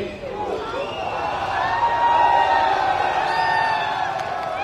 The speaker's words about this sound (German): Dennoch haben sich früh am Morgen heute viele Menschen vor dem Gefängnis in Neu-Delhi versammelt, wie auf Fernsehbildern zu sehen ist. Kurz vor der Hinrichtung zählen sie einen Countdown herunter und jubeln.